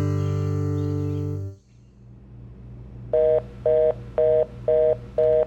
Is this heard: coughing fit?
no